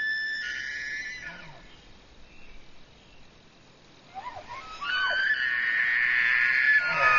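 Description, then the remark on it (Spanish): A Manitoba elk bugles its mating call: a high, shrill whistling squeal that rises and wavers, first briefly, then again longer and louder after a pause, ending in grunting breaths. “El llamado de apareamiento.”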